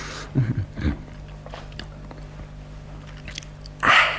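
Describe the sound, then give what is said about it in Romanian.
A short crunchy snap as a small piece is broken off, then a few moist bites as it is chewed and swallowed, followed by quiet, then a brief rustling burst near the end; no talking. “Dacă mi-e foame, să mai rup o bucățică. Na, cam înghițit-o și pe asta.”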